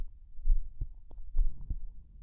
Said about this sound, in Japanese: 心臓の音に意識を向けてみよっか。ゆったりと心地のいい音。あなたの心臓の音もすごくゆったりになってるよ。